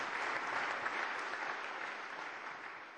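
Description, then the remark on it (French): Steady applause from many hands clapping, a dense continuous patter that holds at an even level for a few seconds with no voices. “Il y a un gendarme qui applaudit.”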